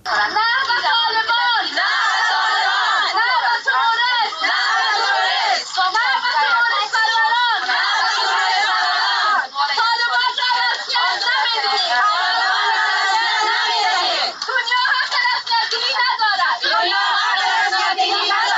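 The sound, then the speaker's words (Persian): A crowd of Afghan women protesters chanting and shouting together in Islamabad, Pakistan, against one year of Taliban rule: a dense, continuous wall of high-pitched voices with rising and falling cries and no pauses throughout. “صدای اعتراض زنان افغان است که در اسلام آباد پایتخت پاکستان بلند کردند.”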